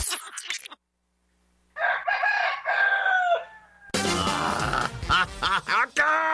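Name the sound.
rooster crowing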